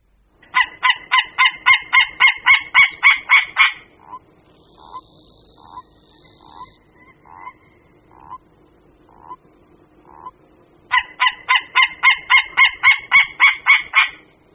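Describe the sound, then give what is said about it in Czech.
Territorial calls of two white-tailed eagles: a male gives a loud, rapid series of harsh yelping notes, a second bird answers from a distance with a fainter, slower series, then the male gives another loud series. No one speaks. “Slyšeli jsme hlas dvou orlů mořských. Jednalo se o teritoriální křik samce, na který reagoval v dálce druhý jedinec.”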